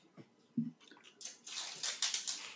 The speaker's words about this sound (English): takes a swig of his meds.